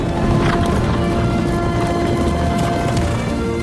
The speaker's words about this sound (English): She crouches down as a herd of wild horses, the bankers of Rodanthe, gallop across the beach towards her.